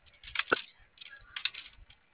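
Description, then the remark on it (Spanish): A quick flurry of computer keyboard keys clicking, several sharp taps in two short bursts with one louder clack, at a low level, with no talking. “No, pero chilló el teclado.”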